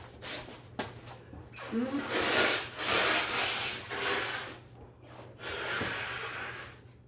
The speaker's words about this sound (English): I'm gonna blow my nose again.